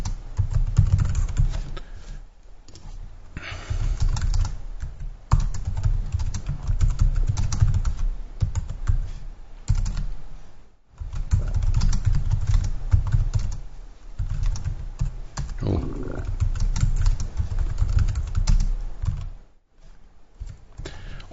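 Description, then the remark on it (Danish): Steady typing on a computer keyboard, a dense run of quick key clicks that continues for about twenty seconds with a few short pauses and no talking. “Se her, jeg klikker på blyanten, og så skriver jeg her med et billede.”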